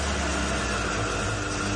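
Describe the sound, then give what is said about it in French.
A car engine idles steadily as the car is being parked, with a low, constant rumble and a hiss on top, holding an even level throughout with no voices. “Vous garez la voiture par là.”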